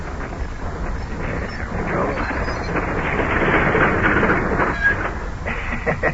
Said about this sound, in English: Take it easy. I'll get it stopped here. Stop this car like an ordinary car. You have to baby it in.